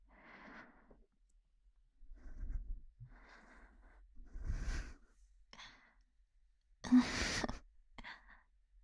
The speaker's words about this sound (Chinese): 总感觉你在喘气啊，喘粗气